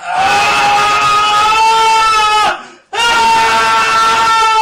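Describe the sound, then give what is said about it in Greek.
A loud, sustained, agonized howl from a cyclops just blinded by a wooden stake driven into his eye, a deep monstrous voice bellowing in two long cries separated by a brief gasp, overpowering with no other sounds. “Τα ολιαχτά του ήταν φοβερά.”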